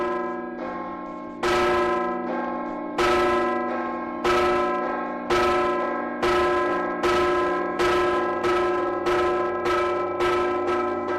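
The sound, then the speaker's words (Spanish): The oldest bells of Burgos Cathedral toll at one in the afternoon in a steady, regular sequence as a tribute on the death of the Pope, each deep strike ringing out and overlapping the long resonant hum of the previous ones, with no voices present. “Hace justo 24 horas, a la una del mediodía de este lunes, la Catedral de Burgos sonaba así, al ritmo de sus campanas más antiguas.”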